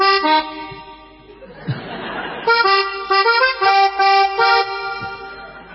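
A musical car horn plays a melody in loud, buzzy tones that step from note to note. A brief burst of noisy laughter interrupts it before the tune resumes.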